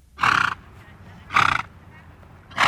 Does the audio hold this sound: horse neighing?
yes